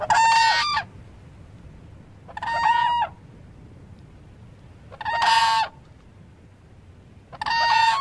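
Four loud, brassy whooping crane alarm calls ring out one at a time with pauses between them, each a harsh, resonant bugling note, clear over faint background hiss.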